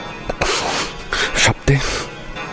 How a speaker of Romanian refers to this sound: Mi-am pus halatul.